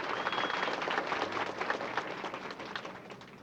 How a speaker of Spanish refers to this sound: Campesinos, ¡arriba la reforma agraria! Queridísimos campesinos, ¡adelante con la reforma agraria! Ese aplauso fuerte para demostrar tu apoyo.